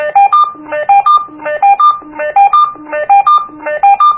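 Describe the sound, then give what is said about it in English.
A walkie-talkie plays its call ringtone, sent to notify the other walkie-talkies by pressing the bottom right button: a fast, repeating melodic pattern of electronic beeps, loud, cycling several times with a steady rhythm and no voices. “That sends that to the other walkie-talkies, my ringtone.”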